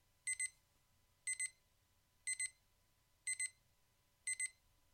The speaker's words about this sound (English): The distant beeping of the alarm clock jolted Ryerson to a sitting position on the sofa.